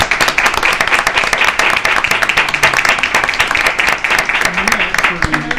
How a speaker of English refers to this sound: We thank all of you for being here. We certainly consider you, and we know you all are a great friend, so they deserve a great round of applause.